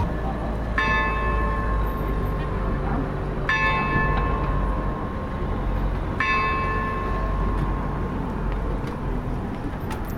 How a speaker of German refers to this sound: Die letzten Glockenschläge, 11 Uhr. Auf dem Marktplatz von Česká Lípa.